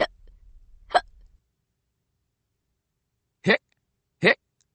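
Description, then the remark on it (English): Four sharp hiccups, the hiccups of the cat Pete from the book Pete the Kitty and the Case of the Hiccups, in two pairs separated by a silent pause of about two seconds; each one is a quick, abrupt vocal gulp. “Pete has the hiccups.”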